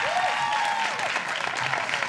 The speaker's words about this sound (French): La parole, je vous demande de l'applaudir encore très fort, s'il vous plaît.